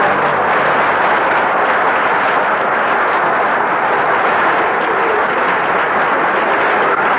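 A steady, loud wash of studio audience applause on an NBC network show, many hands clapping into a dense hiss that holds evenly for about seven seconds with no voices over it.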